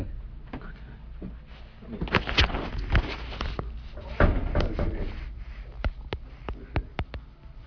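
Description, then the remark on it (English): A couple of people fumble with a door they cannot open: a run of uneven clunks, rattles and thumps as the handle and frame are worked, with sharper knocks spaced out toward the end. “They can't open the door.”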